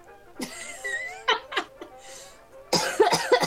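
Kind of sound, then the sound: human body sound, cough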